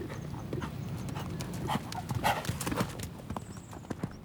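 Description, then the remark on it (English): Horse hooves clip-clop in a steady, uneven rhythm of sharp knocks over a low rumbling background, with a few brighter louder strikes standing out midway. “Makes me think of riding on horseback over the endless plains.”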